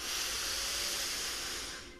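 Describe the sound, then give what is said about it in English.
A long, steady, breathy inhale through the nose during a guided breathing exercise, an airy hiss lasting about two seconds before tapering off at the end. No talking. “All in one breath. Breathing in.”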